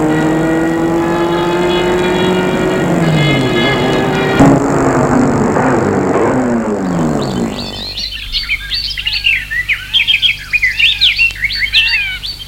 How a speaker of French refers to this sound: La voiture va s'arrêter devant l'entrée de la prison.